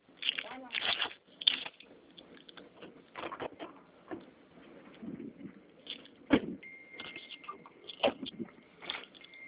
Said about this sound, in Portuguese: Eu vou dirigir agora, eu tô no carro.